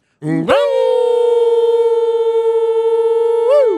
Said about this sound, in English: Horn sounds, and that's it. So Toronto sweeps the four-game series against the Hawks.